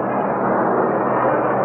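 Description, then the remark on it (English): An airplane passes overhead a baseball game under clear skies with a little haze; its steady, loud roar fills the moment, a broad rushing drone that holds even without rising or fading. No voices are heard over it. “Sound of a plane passing by.”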